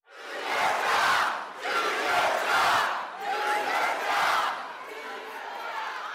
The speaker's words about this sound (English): But Senator Tom Cotton didn't use any of these evasive tactics. He held a town hall meeting in a Springdale venue that sat 2,000 and held the yells of what seemed like thousands more.